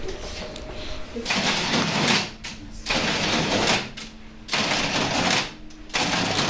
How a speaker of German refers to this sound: Also hier gibt es beides. Das Geräusch einer alten Registrierkasse und das mobile Kartenlesegerät.